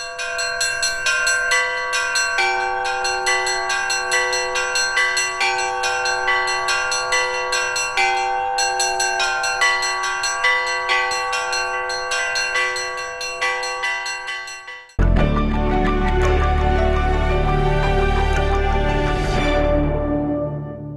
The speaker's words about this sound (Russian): Кто бы мог подумать, что в полуразрушенной колокольне, которую не сокрушили ни время атеизма, ни война, снова будут звучать колокола, призывая прихожан на литургию.